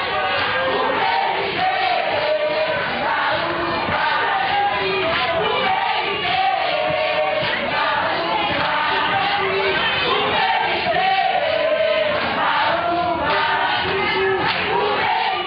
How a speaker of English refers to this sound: I remember panning my camera around, and I just see this crowd of people singing and dancing in the center of the tent. People are jumping up and down.